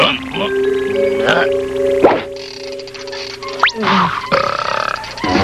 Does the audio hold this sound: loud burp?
yes